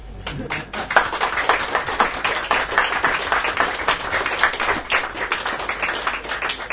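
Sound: audience clapping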